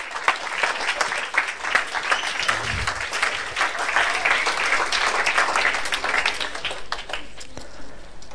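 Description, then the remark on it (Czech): An audience applauds steadily for several seconds, a dense, loud wash of many hands clapping at once with no pauses, holding its level throughout. “Pojďme jim zatleskat.”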